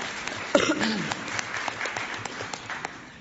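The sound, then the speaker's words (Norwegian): An audience in a conference hall breaks into applause, a dense patter of many hands clapping at a moderate, steady level, with a brief voice briefly audible near the start. “Ja, det er lov med applaus.”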